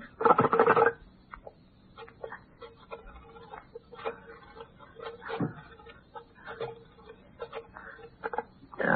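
A telephone being dialed: a brief louder clatter at the start, then a long run of small irregular clicks and taps as a number is entered by a clumsy finger, with no one talking.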